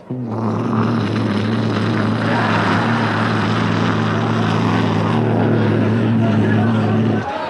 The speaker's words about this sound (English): And so they take off, and you hear the sound of the car.